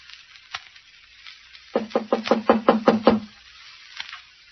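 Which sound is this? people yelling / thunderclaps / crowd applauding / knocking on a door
knocking on a door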